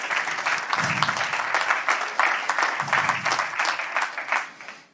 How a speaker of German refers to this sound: Und Applaus für Theresa.